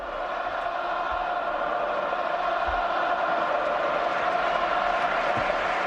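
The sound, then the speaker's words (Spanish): A large crowd at the Bernabéu stadium chants "Ceballos quédate" in unison for Real Madrid player Dani Ceballos around the 83rd minute of the match, a dense, steady roar of many voices with a sung, rhythmic swell that holds at full volume throughout. “Tres nombres propios, el primero el de Dani Ceballos, titular una vez más, aclamado allá por el minuto 83 de partido, Ceballos quédate, y este grito también.”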